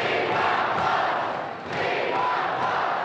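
A large crowd roars and shouts at a 1968 rally for third-party candidate Wallace, a dense, continuous wall of voices that stays loud throughout, dipping briefly before swelling again.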